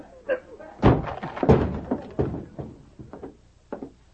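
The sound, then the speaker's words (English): A sergeant forces open the locked door of an office at a barracks: two loud blows strike the door about half a second apart, followed by several lighter knocks and rattles as the door gives way. “I'm going to break this lock.”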